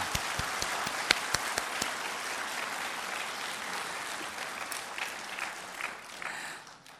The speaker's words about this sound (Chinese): 现在可以鼓掌，荣耀归给神。